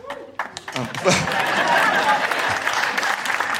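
Light, scattered applause from an audience rises after a brief moment and continues steadily at a modest level, many hands clapping without much enthusiasm, in response to a mention of Volodymyr Zelensky addressing Parliament in Westminster Hall.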